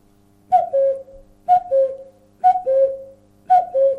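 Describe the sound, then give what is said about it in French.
A naturalist illustrator's whistled imitation of a cuckoo call, heard in May: four clear two-note phrases, each a higher tone dropping to a lower, longer one, repeated steadily about once a second with no talking. “Oui, c'est pas une réponse là, c'est plutôt une imitation d'oiseau. C'est un oiseau que je viens d'entendre à l'instant, le coucou, puisqu'on est au mois de mai.”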